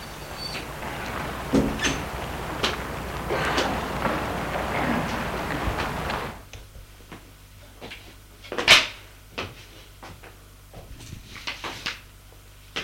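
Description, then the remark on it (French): The front entrance door of a house being opened: a steady rush of scraping, rattling noise fades out, then a few scattered clicks and one sharp latch-like thud, with no voices. “La porte est ouverte.”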